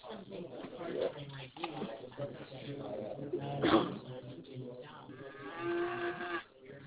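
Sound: cow mooing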